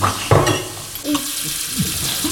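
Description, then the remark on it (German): A tap in a toilet room runs steadily as people fill tooth glasses and drink from it, its water hissing in a continuous rush, with a few brief clunks and knocks. “Trinkt so viel aus dem Hahn, wie ihr könnt.”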